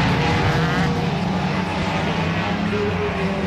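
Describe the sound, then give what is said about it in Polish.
Loud, continuous roar of racing car engines at the Tor Poznań circuit in Poland during a round of the Polish car racing championship, with shifting engine pitch as cars pass and accelerate. A dense, steady wall of motor noise with no clear talk. “Wracamy do sportów motorowych i przenosimy się na Tor Poznań, gdzie sporo emocji było podczas trzech ostatnich dni.”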